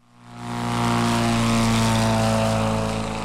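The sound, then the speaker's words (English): Engines of about a dozen replica World War I propeller biplanes drone overhead in southwest Ohio, a steady throaty hum that swells in over the first second and holds loud, with several planes seeming to blend together. No voices. “Imagine this, looking up in the air and seeing a dozen World War I biplanes filling the skies.”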